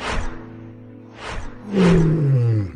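A jaguar roars: two short breathy snarls, then a loud, deep roar that slides downward in pitch and holds to the end. No voices are heard.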